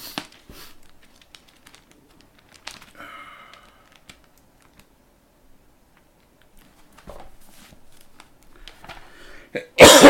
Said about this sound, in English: Pardon me, pardon the coughing. I've been sick for a few weeks, and I'm still not 100% yet.